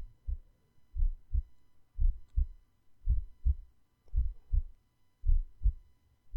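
heartbeat heard through chest

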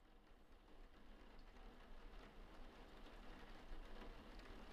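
heavy rain falling outside

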